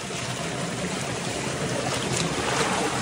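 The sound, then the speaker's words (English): Water sprays out of a burst pipe under pressure like a fountain, a loud, steady rushing hiss that holds unbroken from start to finish, with no voices. “Look how it broke. Do you see this fountain? Water is coming out.”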